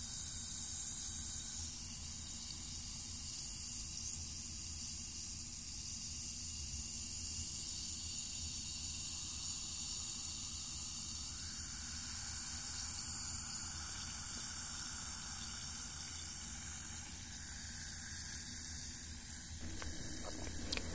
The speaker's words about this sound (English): I'm gonna concentrate all my energy on that fizzing. I want to bind my will to the fizzing.